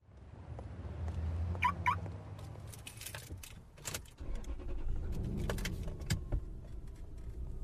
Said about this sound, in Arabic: يا الله يتنا الزحمة، متى بوصل؟ ش عندك تضرب هرنات؟